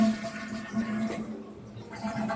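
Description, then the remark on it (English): A toilet flushes in one steady rush of swirling water that fills the whole couple of seconds, moderately loud, with a faint hum beneath it and no one talking. “And yeah, you can flush them down.”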